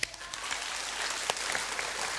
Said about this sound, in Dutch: Ik heb wel jullie hulp nodig, hoor. Want, kunnen jullie heel goed klappen?